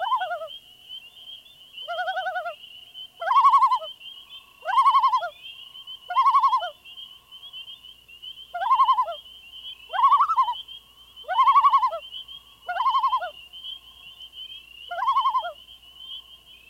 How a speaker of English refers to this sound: These are the tremolos, wails, and yodels of a well-known water bird, the common loon. The loon has three outstanding vocalizations. One is a wavering tremolo, which indicates alarm.